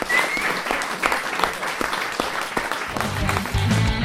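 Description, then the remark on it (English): A crowd applauds steadily at the end of a round of a panel game show, many hands clapping in a dense, continuous patter that swells slightly toward the end, with some low voices murmuring underneath. “Round of applause for that round.”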